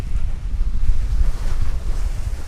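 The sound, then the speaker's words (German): Strong autumn storm wind from the northeast buffets the microphone over the steady roar of surf breaking on a long sandy beach at Lubmin on the Greifswalder Bodden, Germany, a loud, continuous rumble with no voices. “Und die heftigen Herbststürme drücken das Wasser in den Greifswalder Bodden.”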